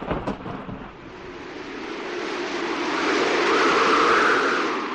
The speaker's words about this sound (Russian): Окна были открыты от духоты. Толку от этого было немного, но это важное обстоятельство, потому что все началось, видимо, именно с предгрозового порыва ветра.